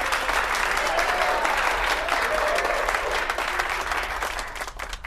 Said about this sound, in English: And a big round of applause for today's contestants